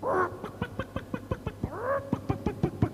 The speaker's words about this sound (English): Dobby the dog. Oh, why are you chasing the chickens? Get off, stop chasing those chickens, Dobby.